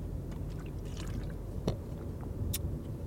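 Sipping water from a 33.8-fluid-ounce plastic Smartwater bottle inside a car: a few soft wet slurps and a short sharp crackle over a low background rumble, with no talking.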